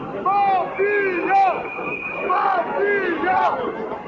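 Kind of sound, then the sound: crowd, protest crowd chanting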